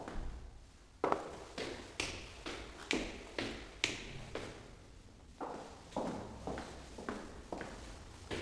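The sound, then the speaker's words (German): Quick, regular footsteps of a pizza delivery man running up a staircase toward the seventh floor, about fifteen steady treads in a row, fairly clear with a slight echo, with no talking. “Und habt ihr mitgezählt, wie viele Stufen ist er nach oben gelaufen?”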